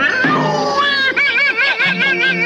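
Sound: cats meowing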